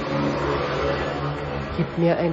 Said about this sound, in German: Du hörst jetzt gerade, dass die da zum Schleifen anfangen.